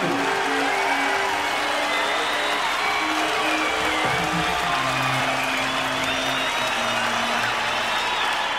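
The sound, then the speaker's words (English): A show audience applauds steadily for several seconds, giving performers a big hand, dense clapping with a few scattered whoops and cheers mixed in, loud and continuous throughout. “Give Matt the Tube Crowley and your local guys a big hand.”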